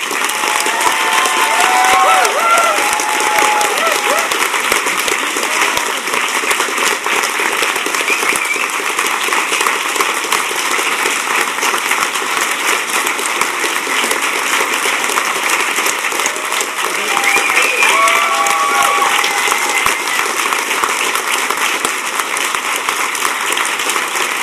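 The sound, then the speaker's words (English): Sustained conference audience applause for the conference organiser known as number six, a dense, steady wash of many hands clapping at an even loudness for about twenty-four seconds, with faint cheers and voices rising briefly through it. “So a round of applause for number six.”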